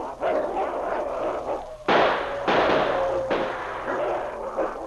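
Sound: gunshots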